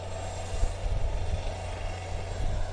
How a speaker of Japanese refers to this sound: はい、医療物資を乗せた京都市消防航空隊所属のヘリコプターが、現在護衛艦ヒューガの甲板に着艦しました。